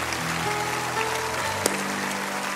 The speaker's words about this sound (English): Come on, Lakewood, let's clap them in.